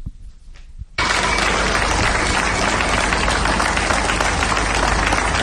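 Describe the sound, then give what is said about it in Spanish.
Police officers applaud at Policlínica Miramar in sustained, dense clapping that bursts in abruptly after a second of low murmur and continues steadily at a loud, even level to the end. “Por ejemplo, el aplauso de las policías, las diferentes policías, en este caso, cada día en un lugar diferente, Policlínica Miramar.”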